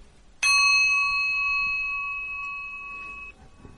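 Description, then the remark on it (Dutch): A single bell is struck once by the leader of a recitation of the mantra of Dainichi Nyorai of the Taizokai. It rings out with a bright, clear metallic tone that sustains and slowly fades for about three seconds before being cut short, with no voices present. “21 keer samen, dan sla ik met de bel en reciteer jezelf verder totdat je dit ongeveer 100 keer gedaan hebt.”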